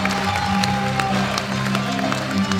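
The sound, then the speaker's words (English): A theater audience applauds as a play ends and the theater's mustard yellow felt curtain drops, a dense, steady wash of overlapping claps that stays loud throughout, with a faint sustained tone and crowd murmur beneath the clapping. “As the play ends and the theater's mustard yellow felt curtain drops to a thunderous applause,”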